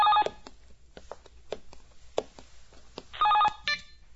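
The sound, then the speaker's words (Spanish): A telephone rings in two short electronic bursts, one at the start and another near the end, with quiet clicks and faint room noise in between. “Yo cojo el teléfono.”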